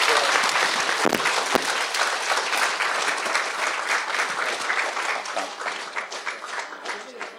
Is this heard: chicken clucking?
no